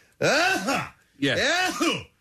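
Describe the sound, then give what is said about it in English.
A voice imitates another person's sneeze twice, producing two loud, voiced bursts with a swooping pitch, separated by a brief pause. “I can imitate your sneeze.”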